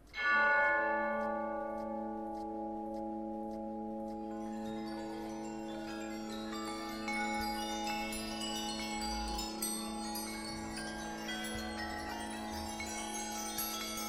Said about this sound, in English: seems like hundreds of small bells begin to ring. Okay. Water chimes begin to go off down to the beach everywhere.